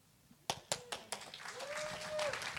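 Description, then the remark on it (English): Audience applause after a song begins with a few sharp, separate claps that quickly swell into dense, steady clapping from a crowd, with a faint rising-and-falling whistle or voice tone partway through. “Can you give these guys a round of applause?”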